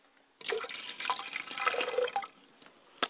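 pouring libation water

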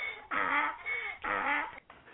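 donkey braying

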